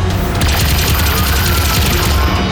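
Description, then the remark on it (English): A sci-fi cannon, the Scion Cannon retuned to Reptilia Sapiens, fires a rapid, continuous barrage of loud, booming blasts, the bursts running together into a dense roar with no voices. “I'll retune the Scion Cannon to Reptilia Sapiens.”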